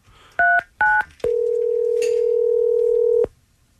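telephone dialing a number

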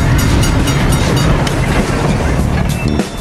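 train passing

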